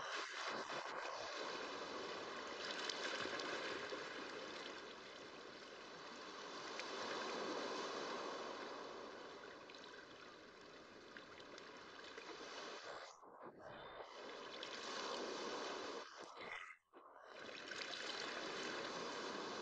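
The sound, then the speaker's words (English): Ocean water laps and washes continuously in a steady, full hiss, with a couple of brief lulls near the end; no voices are heard. “You float in a state of weightlessness, lulled by the lapping of the water.”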